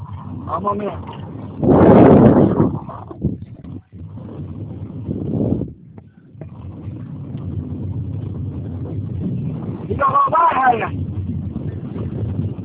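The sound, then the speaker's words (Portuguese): Steady low rumble of road traffic comes through a narrow, tinny phone line, with muffled voices breaking through in a couple of short bursts over the constant background noise. “É porque eu tô no trânsito.”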